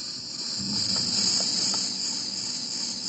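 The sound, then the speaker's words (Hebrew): A dense, steady chorus of cicadas buzzing continuously at a high pitch, played back from a cassette on a tape player, with a faint low hiss beneath and no talking. “די, אלי ציקדו? שומעים את זה ברמה שאני...”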